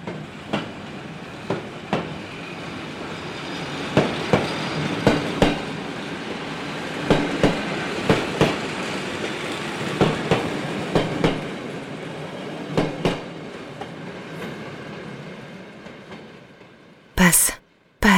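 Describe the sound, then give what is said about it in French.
A train rolls by with a steady low rumble and rhythmic clickety-clack of wheels over rail joints, before a couple of sharp bursts near the end. “Rien que le chant des oiseaux et le grondement des trains qui passent.”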